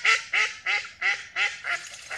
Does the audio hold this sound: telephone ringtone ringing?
no